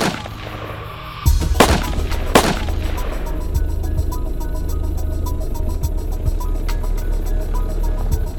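gunshots

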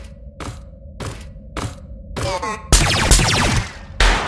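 gunfire

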